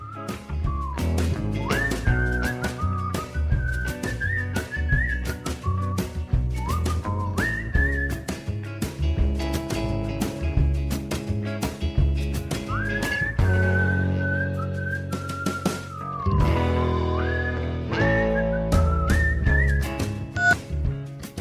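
A bright whistled melody carries the tune over a full band with steady drums and bass, sliding between sustained notes and short phrases, loud and up front for the whole stretch.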